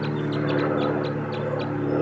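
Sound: wild birds calling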